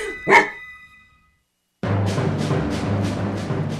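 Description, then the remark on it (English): A border collie named Sophie gives one sharp, loud bark, then there's a short silence before a dense, continuous stretch of noise with quick, regular pulses. “their border collie Sophie, and from border collie Nellie and her owners”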